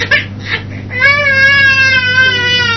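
A young child cries in a sustained, rising wail after a few short whimpering sobs, fairly loud, with a low steady hum underneath.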